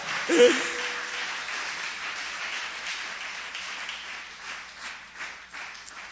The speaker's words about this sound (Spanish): Dele ofrenda de palmas al Señor, mi amado.